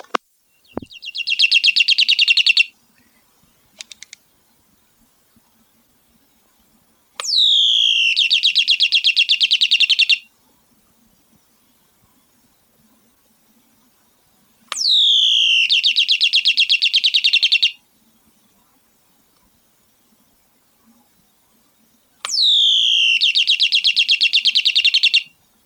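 Mechanical bird chirping from an electric plug-in toy bird in a house, repeating in four bright warbling bursts of about three seconds each with short silent gaps between, clear, with no voices.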